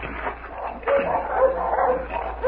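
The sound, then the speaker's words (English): Several dogs bark and yip in a quick, overlapping burst by a tree in front of a farmhouse, with faint background noise underneath. “Dogs. Oh, they sound like the side of that tree in front of the house.”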